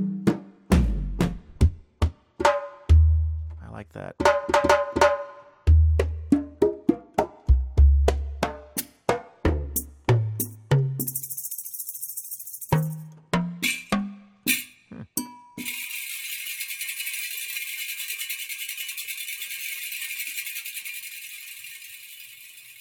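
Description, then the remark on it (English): A sampled African drum kit played chromatically, note by note, upward from the bottom A of an 88-key keyboard: a steady run of varied hand-drum and percussion hits, deep booms mixed with sharp clacks, ending in a long sustained hiss. A voice briefly remarks. “The whole keyboard is this African drum kit, and it's got some really interesting, neat-sounding drums.”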